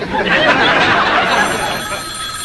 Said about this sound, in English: Who could that be? Nobody knows our new number. It's him. It's him! It's the obscene phone caller! I'll get it.